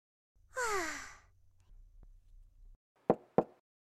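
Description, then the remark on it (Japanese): A long breathy sigh gives way to a low hum, then two sharp, evenly spaced knocks on a door ring out clearly with no talking. “鍵をかけていませんので、ドアを開けて入ってきて大丈夫ですよ。”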